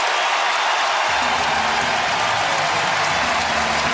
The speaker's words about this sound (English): Driven into the gap. And nobody's there. And Devers off to the races. And he's going to stop at second. The Giants take the lead. And listen to this crowd.